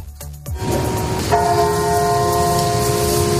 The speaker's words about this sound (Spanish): ha habido un minuto de silencio, como escuchamos, acompañado de campanas ante las instituciones.